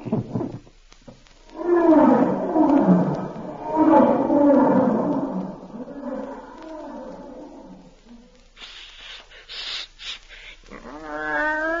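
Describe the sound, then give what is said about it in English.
A deep, rumbling lion roar rises and swells loudly over several seconds, then fades into quieter rustling and a few higher, scattered sounds. “How's this for a lion?”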